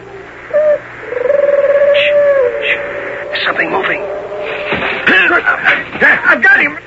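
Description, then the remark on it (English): Drawn-out, owl-like hooting calls made by men as signals (Minotauri talk) while they go after horses: a couple of long steady hoots near the start, followed by a busier stretch of warbling, chirpy calls at moderate loudness. “Those aren't owls. It's Minotauri talk.”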